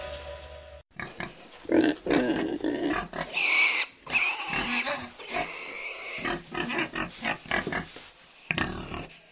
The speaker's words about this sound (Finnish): Se oli possu. Mä ajattelin, että tarvitaan tällainen, päästään tunnelmaan täällä Helsingissäkin jossa ja Pasilassa.